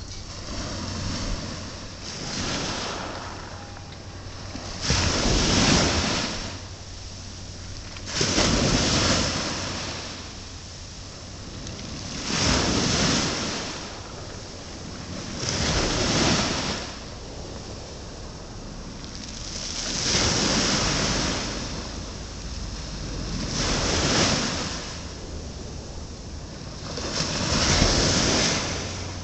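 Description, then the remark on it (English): The outgoing sea tide at a pier: waves wash in and recede in a steady rhythm, roughly every three to four seconds, each surge swelling into a broad hiss before fading, with faint wind noise underneath and no voices. “So now we're going to record the tide so you can hear, hopefully, the sea.”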